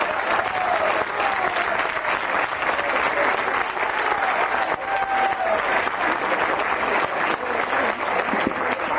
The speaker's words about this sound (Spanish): Los suplentes del partido de ayer fueron los primeros en llevarse la ovación.